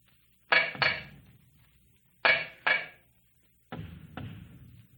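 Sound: knocking on a wall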